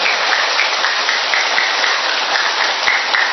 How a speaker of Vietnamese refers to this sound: Chúng ta một tràng pháo tay thật lớn để chúng ta tạ ơn Chúa và cảm ơn các bạn trẻ. To nữa đi.